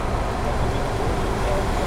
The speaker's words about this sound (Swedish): Jag åker förbi en vansinnigt ful buss just nu.